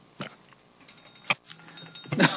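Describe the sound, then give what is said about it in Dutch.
A bell rings with a sustained, bright metallic tone that carries on for more than a second, with a few sharp knocks and rustles scattered around it. “Ja, het is gewoon de bel.”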